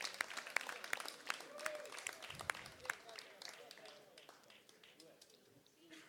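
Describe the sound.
An audience at Conchetta breaks into applause to thank the person who cooked their meal, a dense patter of many hands clapping that gradually thins and softens over about six seconds, with a murmur of voices underneath.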